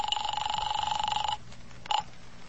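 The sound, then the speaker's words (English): An old-style telephone bell rings with a rapid metallic trill for over a second, stops, then gives a brief second burst. The ringing is loud over a faint background hum. “There's the phone.”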